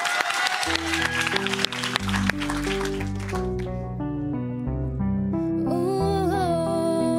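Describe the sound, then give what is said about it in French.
A short burst of audience clapping rattles over the opening of an instrumental beat, fading after about two seconds while the steady, bass-heavy music carries on alone. “On applaudit et on lance l'instru.”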